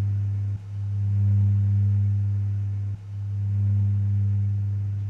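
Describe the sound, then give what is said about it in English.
A steady, low mechanical hum of running machines drones continuously, briefly dipping twice before resuming at the same even level, with no voices present. “Sometimes if you get money stuck in them, you know one's going round, but just a hum, isn't it, to us?”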